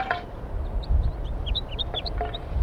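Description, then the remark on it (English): A flock of six wild birds at the top of a pine tree give short, high chirps and peeps scattered over a steady low rumble of background noise, with a few sharper calls standing out. “Recording the wild birds. Some more have joined the flock up in the pine tree.”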